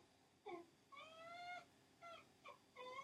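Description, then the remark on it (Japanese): A pet, Pin-chan, cries outside a room door in a series of high, tonal whining calls, wanting to be taken for a walk: one short yelp, then a long drawn-out wail, followed by three more brief cries. No one speaks. “そう、今ね、ちょっと部屋の前でちょうど泣いてる。音聞こえるかな？”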